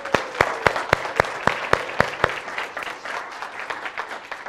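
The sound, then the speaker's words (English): An audience applauds the leaders who put on an event for children and teens, with a few sharp, evenly spaced claps standing out at first before blending into a steady patter of many hands clapping that slowly thins out. “So let's give them a hand clap.”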